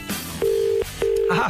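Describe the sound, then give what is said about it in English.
Two steady, evenly spaced telephone tones sound over a phone line as a call is placed to put a caller on line 2, each a mid-pitched beep lasting under half a second with a short pause between them, clear and prominent. “Put him on line 2. If it connects, that is.”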